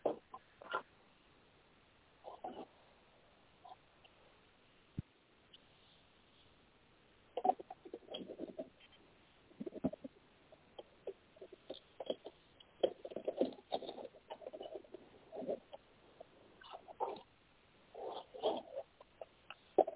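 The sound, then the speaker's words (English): Soft, papery riffling and flicking in irregular bursts as a person shuffles a deck of cards, with brief pauses between spurts and no talking. “One second while I shuffle the cards.”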